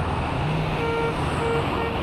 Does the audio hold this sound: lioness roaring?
no